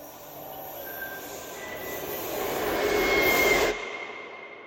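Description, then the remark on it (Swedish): A subway train rumbles along the tracks with a steady metallic roar that swells louder over a few seconds, thin high squeals riding on top, then cuts off abruptly. “Och av alla vagnar som gnisslat längs spåren genom decennierna finns det särskilt ett som sticker ut.”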